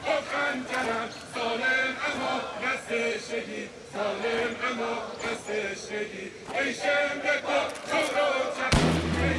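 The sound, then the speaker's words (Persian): A single sharp gunshot cracks out near the end, loud and sudden, cutting through a steady murmur of many voices talking and shouting together. “لام بود، صدای گلوله بود.”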